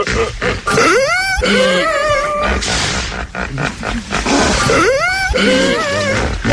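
A hippopotamus grunting loudly in two long bouts of deep, wheezing honks, each call sweeping up and down in pitch over a rough, noisy rumble, with no talking.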